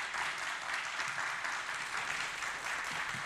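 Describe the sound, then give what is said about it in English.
A crowd at a candidates' discussion at Rick Center for the Arts in Greenfield, Indiana claps steadily for the candidates for a few seconds, a dense, even wash of many hands with no pauses, fairly loud throughout and no one speaking. “Please let's give another round of applause to our candidates tonight.”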